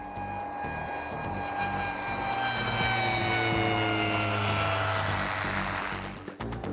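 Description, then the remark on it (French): An air ambulance plane's engines roar steadily and fairly loud, with a droning whine that slowly lowers in pitch as the aircraft passes and descends to land with priority clearance at Houston, fading near the end. “La tour de contrôle accepte de faire atterrir l'avion sanitaire en priorité.”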